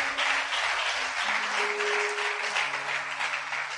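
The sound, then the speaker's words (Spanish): Steady audience applause, a dense wash of many hands clapping at once, loud and continuous throughout with a faint sustained tone humming underneath. “Dele aplauso si puede hacerlo.”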